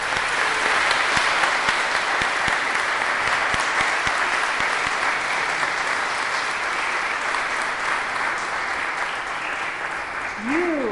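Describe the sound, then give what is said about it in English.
Sustained applause from a church audience for a member who turned 90, a dense steady clatter of many hands clapping for about eleven seconds at even loudness, with a brief rising vocal sound near the end. “I promised that when someone turned 90 or above, we would give them a round of applause.”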